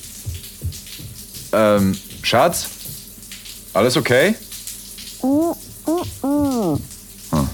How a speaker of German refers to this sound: Schnell ziehe ich meinen Arm zurück, um nicht vom kalten Wasserstrahl getroffen zu werden. Kalt duschen war noch nie meins.